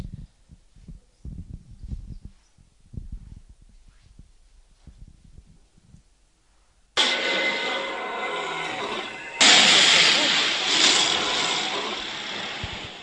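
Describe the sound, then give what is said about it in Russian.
A lion roars: scattered low grunts and rumbles build up, then a sudden loud, harsh, raspy roar takes over and swells even louder before easing slightly, with no talking. “Мне говорили, что львиный рык слышен почти за 10 километров.”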